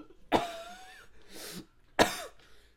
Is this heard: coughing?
yes